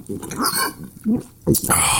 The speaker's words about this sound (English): And you also said, let's not even talk. Let's just have the sound of us drinking it.